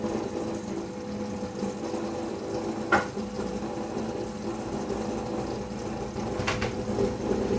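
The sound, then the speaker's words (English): A steady mechanical hum with a watery, pumping texture runs throughout, like a coffee maker drawing water to refill its reservoir, with a couple of brief clicks or knocks along the way. “See, now it's done, now it's going to fill back up with water.”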